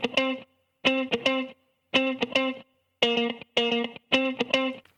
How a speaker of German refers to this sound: So, ich habe mir jetzt hier einfach mal ein Raster erstellt und zwar auf 110 BPM, das ist die Geschwindigkeit, und habe mir jetzt da einfach mal so eine Gitarre reingezogen, einfach so eine funky Gitarre, die klingt so.